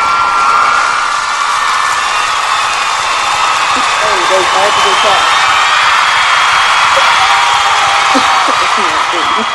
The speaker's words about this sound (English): Hold on. Clap. We got that in the budget now. We got the clap system.